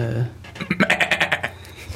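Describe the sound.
A person's voice imitates a quiz-show contestant's buzzer with a quick, rhythmic run of about eight bleating, stuttering pulses. It is fairly loud, heard alone with no other talking.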